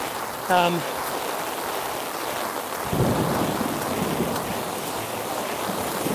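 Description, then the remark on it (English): Heavy rain pours in a steady, dense hiss on someone walking to the bus a little after 4 under an umbrella. Partway through, a deep rumble of thunder rolls in and lingers under the downpour. A brief tonal blip sounds near the start. “It's a little after 4, and I am on my way to the bus in heavy pouring rain.”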